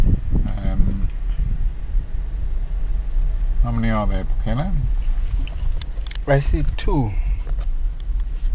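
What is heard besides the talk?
car engines idling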